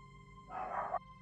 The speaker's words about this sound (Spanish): Mi perro empezó a ladrar bastante y a gruñir.